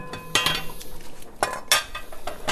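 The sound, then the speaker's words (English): Metal pots and utensils clink and clatter in a kitchen while beans boil in a pot, a quick run of sharp, bright knocks and scrapes with a faint hum underneath. “Back at my grandfather's kitchen, the beans have been boiling for an hour.”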